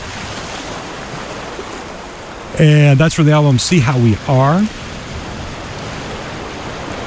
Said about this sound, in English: Got some more waves in the background to kind of give you that beachy summer feel.